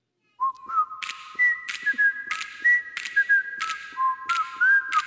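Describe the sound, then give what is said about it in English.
A jaunty whistled TV theme tune from The Andy Griffith Show, a clear high melody with steady sharp beats under it at an even tempo, ringing out alone without any talking. “Andy Griffith, there he is. Sheriff Taylor right there.”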